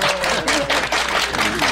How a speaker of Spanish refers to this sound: Un aplauso, ¿no?